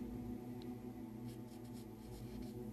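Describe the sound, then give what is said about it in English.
Soft scratching of a pencil as a woman writes neatly in a book in short strokes, quiet and steady against a low background hum, with no voices. “She writes neatly in pencil.”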